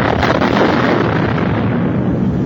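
A shadow bomb explosion fills the whole clip as a loud, dense, roaring blast that rumbles on steadily with a crackling texture, fading only slightly toward the end. No voices are heard.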